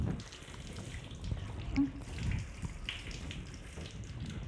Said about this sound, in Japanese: あとはシャワーで洗い流していきますね。目を開けちゃダメですよ。